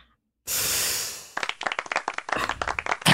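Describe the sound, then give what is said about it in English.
A burst of broad hissing noise swells, then gives way to audience applause at the opening of the show Rashmaster: many quick, sharp claps in a dense, irregular patter that stays fairly loud for about two seconds, with no talking. “The applause.”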